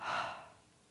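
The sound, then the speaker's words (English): A single soft, airy breath, swelling briefly and then fading away into quiet, with no talking. “breathing and then letting it drop.”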